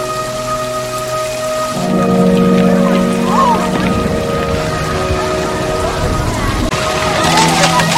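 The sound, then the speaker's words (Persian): Steady rain pours down during a thunderstorm, with a deep rumble of thunder swelling partway through and lingering under the continuous hiss of falling water. “تا نیم ساعت بعد از آخرین رعد و برق کسی داخل آب نمیره.”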